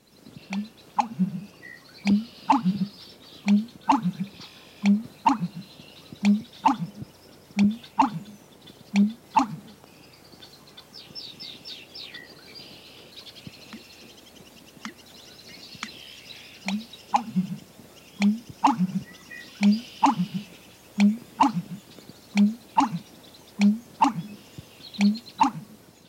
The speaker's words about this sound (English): Our last unusual songster, the American bittern, is perhaps the most remarkable. His vocalization is created as he gulps and expels quantities of air. Here's the American bittern.